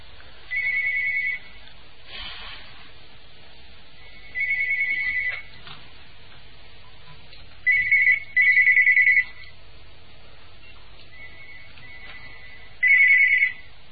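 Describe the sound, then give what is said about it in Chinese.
A telephone's electronic ringtone trills in short bursts, about five of them at uneven intervals, clear, with quiet gaps between and no voices. “请大家不要打那个电话，因为台长那个电话不接的。”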